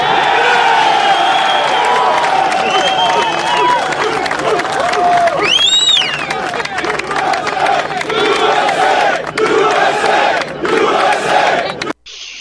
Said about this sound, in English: That's the common thing, is the chant of USA.